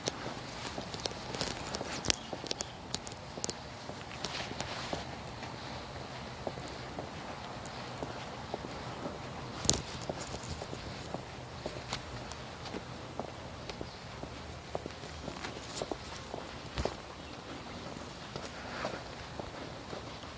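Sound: footsteps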